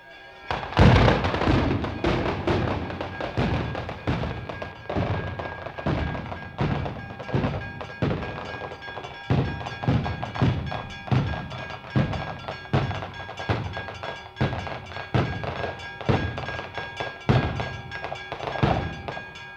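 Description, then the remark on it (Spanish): A traca firecracker string goes off in a long, loud run of sharp cracks and booming thuds, rapid and uneven, with a crackling, smoky rumble filling the gaps between blasts. “Aunque esto se repite año tras año, la gente me parece que se ha quedado muda por el ruido de la traca.”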